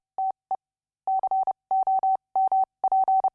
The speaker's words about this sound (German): Das Ausgangssignal für die heutige Sendung ist das in einem Morse-Code übersetzte aus dem Jahr 1933 stammende futuristische Manifest La Radia von F.T. Marinetti und Pino Masnata.